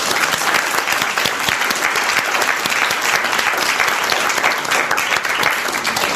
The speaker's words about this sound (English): Thank you. I'd like to thank all our panelists, if we give them a round of applause.